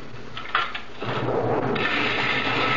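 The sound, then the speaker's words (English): A blender whirs into action after a short clatter, its motor grinding steadily with a gritty, sandy rasp as a thick mixture of granite sand and very thin lacquer churns, continuous and fairly loud. “I take the granite sand. I mix in very thin lacquer, like this, in a blender.”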